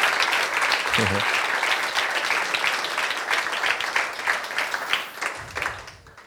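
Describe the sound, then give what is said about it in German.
A crowd applauds steadily to accompany people coming forward, a dense wash of many hands clapping, with brief bits of voices underneath and the clapping thinning out toward the end. “Ja, wir dürfen Sie gerne mit einem Applaus ein bisschen führen begleiten, genau.”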